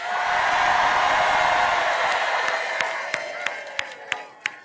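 A large crowd in Wisconsin, on a warm 78-degree day, cheers and applauds for Tim Walz in a sustained roar of clapping and shouts, which thins out toward the end into a handful of separate, sharp claps.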